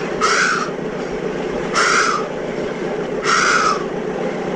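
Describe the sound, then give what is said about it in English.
A voice imitates a horse breathing hard after running: three harsh, raspy huffs, evenly spaced about a second and a half apart, over a steady low rumble. “And it was fantastic itself, that, because it was sounded exactly like a horse that had been running.”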